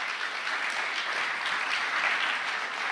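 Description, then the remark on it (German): Steady audience applause for a friend invited to the front as a guest, a dense wash of many hands clapping at an even, sustained level for about three seconds with no voices standing out. “Ein Applaus für einen guten Freund.”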